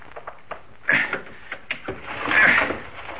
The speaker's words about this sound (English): Let's work on this window here and get in that way. The shade's down so we can't see inside, but I've got a little piece of steel that'll get us inside. Stand back while I do a little prying.